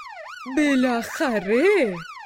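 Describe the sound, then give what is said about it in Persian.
A fire engine siren wail rises and falls in smooth sweeping swoops, fairly loud, apparently voiced by a person imitating the siren in a Persian-language story. “اما یک روز ناگهان آژیر آتش نشانی به صدا در اومد.”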